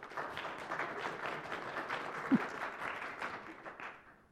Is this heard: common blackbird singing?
no